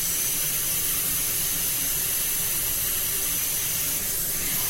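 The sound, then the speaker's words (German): A steady, loud hiss of a small glass lantern being sandblasted with quartz sand inside an industrial sandblasting machine runs unbroken for several seconds, a harsh rushing blast of abrasive against glass with no pauses and no voices. “Schnell so ein Windlichtchen Sandstrahlen.”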